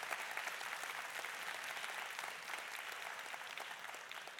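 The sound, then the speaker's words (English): A large audience at a church service claps steadily and densely for several seconds as a hand clap of praise to God, a continuous wash of applause with no individual voices standing out. “Give God a hand clap of praise.”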